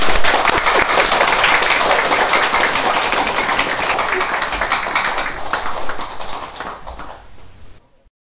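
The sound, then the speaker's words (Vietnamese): A crowd claps steadily for several seconds in a dense, crackling burst of applause that gradually thins out and stops. No one speaks over it. “Xin quý vị vỗ cho một tràng pháo.”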